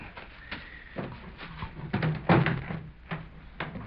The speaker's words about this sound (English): These gasoline stations are all alike. Nothing open one of them. Just break the glass, reach in, and unlock the door.